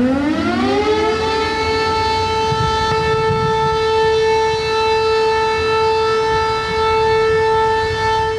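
A loud civil defense siren in Kragujevac sounds at noon, winding up from a low pitch to a steady, sustained wailing tone that holds for several seconds, with faint low rumbling beneath and no voices.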